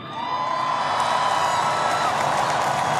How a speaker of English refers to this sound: Let's give a round of applause to those people, man.